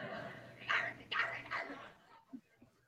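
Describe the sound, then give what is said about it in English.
A woman imitates a dog barking with three short, loud, rough yips in quick succession, followed by a couple of softer grunting sounds as it trails off. “Wait, what does that barking mean?”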